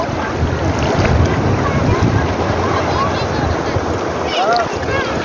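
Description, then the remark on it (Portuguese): Seawater churns and splashes steadily under loud, gusting wind buffeting the microphone, a continuous wash of noise, with faint voices briefly audible beneath it, as someone takes a dip in the sea. “Olha o banho de mar. Do jeitinho que você queria.”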